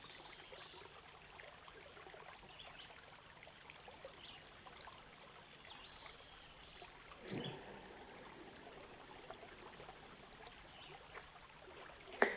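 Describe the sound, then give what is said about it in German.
Soft, steady trickling and burbling of a flowing river, continuous and fairly quiet throughout, with a brief splashy swell midway and no voices. “Und nun, wo das Wasser des Flusses wieder ganz klar geworden ist, machst du vielleicht einmal ganz untertauchen.”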